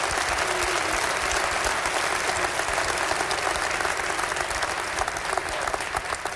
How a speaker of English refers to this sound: Hallelujah. Let's give God a clap tonight. Hallelujah.